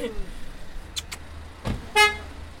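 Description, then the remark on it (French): A car horn gives one short, bright honk near the end from a queue of about ten cars, rising over a steady low rumble of idling traffic with a few faint knocks and a brief whoosh before it. “Il y a une file d'une dizaine de bagnoles derrière.”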